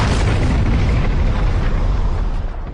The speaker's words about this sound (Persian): خمپاره های ترکشی تو هوا منفجر میشدن و نیروهایی که زیرشون بودن و تیربارون میکردن. انگار که از یه شاتگان شلیک شده باشن. گلوله ها رو سرت میبارید.